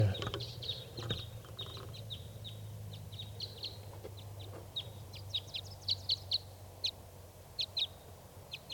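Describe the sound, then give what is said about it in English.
A lone male wild bird gives a long series of short, high-pitched chirps in an irregular rhythm, growing slightly louder toward the end, over a steady low rumble. “One lone wild bird here.”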